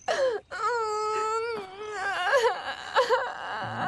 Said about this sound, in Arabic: لماذا تبكي يا ولدي العزيز؟